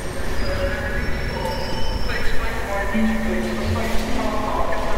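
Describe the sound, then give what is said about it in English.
A full passenger train departs and rolls steadily along the track for two hours without stopping, with a continuous low rumble, and thin metallic squeals from the wheels rise and fade over the rhythmic clatter. “The train departs and rolls down the track for 2 hours without stopping.”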